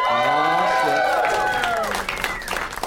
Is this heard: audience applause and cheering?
yes